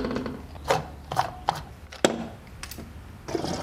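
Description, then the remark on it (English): The fuel door of a 2003 Volkswagen Jetta diesel car pops open and the gas cap is unscrewed, heard as a series of sharp plastic clicks and snaps, ending in a brief ratcheting rattle, before refuelling with biodiesel. “He pops open the fuel door and unscrews the gas cap.”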